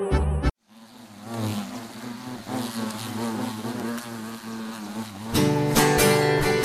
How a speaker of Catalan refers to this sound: Són els mosquits pessigolles, els mosquits molt eixerits, que tot aquell qui pica es torna molt divertit.